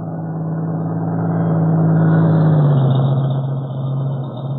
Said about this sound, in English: We're waiting for a truck to come from the direction of Maywood, Cato. Also, I have a feeling that not far behind the truck there will be... A truck coming down, Mr. Britt. Yes, I hear it.